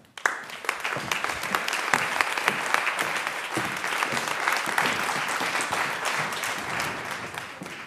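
Sustained applause from an audience welcoming speakers onto a panel, many hands clapping steadily at a fairly loud, even level for several seconds, with no voices standing out.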